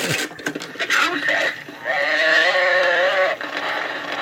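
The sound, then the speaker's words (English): A pull-string talking toy, whose arrow turns to an animal, names the animal and plays its recorded noise, a loud wavering whinny with a shaky, bleating quality, heard alone, lasting a few seconds after a brief rustle. “And then it would turn, and wherever your arrow was, it would say, the cow, whatever the animal is, it would say, the cow makes this noise, and it would make the noise.”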